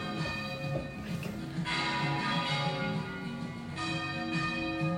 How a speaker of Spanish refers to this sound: Las campanas de nuestra catedral, si no vamos nosotros, no tocan, no suenan.